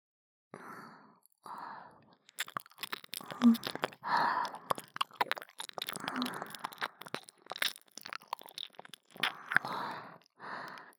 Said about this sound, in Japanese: 反対側の確認も必要ですね。どちらかの方向しか録音できないのであれば片手落ちです。舐める音も吐息もきちんと拾ってもらわねばなりません。